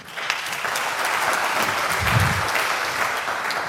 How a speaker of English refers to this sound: Well, a big applause